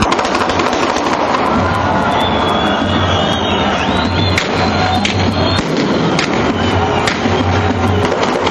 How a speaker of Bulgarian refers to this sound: Изстрели от радост над улиците на Прищина. Само секунди преди това председателят на парламента обяви, че Косово е независимо.